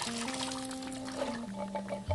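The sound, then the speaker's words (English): Steady running water pours and splashes as chickpeas are rinsed under a tap, with a faint low hum underneath and no talking. “Just rinse these off.”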